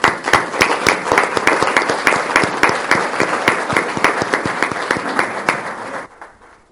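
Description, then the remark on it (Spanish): An audience in a hall applauds steadily for about six seconds to thank a guest for attending, a dense patter of many hands clapping with a few sharp individual claps standing out, then quickly fading out. “Y bueno, nada, si les parece le damos un aplauso y le agradecemos su presencia.”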